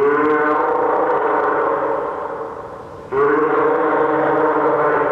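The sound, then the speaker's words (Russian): A fur seal named Avgust calls at lunchtime with a loud, harmonically rich bleating bellow that holds steady and gradually fades, then breaks off and starts again abruptly in a second strong burst. No voices are heard. “А это подает голос морской котик.”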